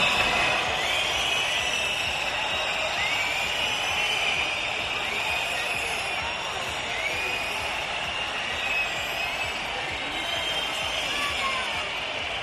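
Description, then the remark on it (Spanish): A large crowd behind security barriers whistles and boos loudly and without pause at Spanish President Sánchez arriving in an official car at a military parade, with many shrill, sliding whistles piercing through a dense, roaring wall of jeering voices for the whole stretch. “Sonora pitada al presidente Sánchez, que ha contrastado con los aplausos a los reyes.”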